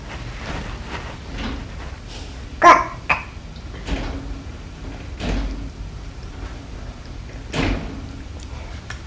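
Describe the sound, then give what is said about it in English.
A cat climbs up a screen door toward the top, making irregular rattling and scraping with a few sharper clattering bursts, against a faint background hum and no speech. “He climbs up on the screen up to the top of the stay there.”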